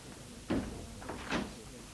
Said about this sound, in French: Et la bonne ferme la porte.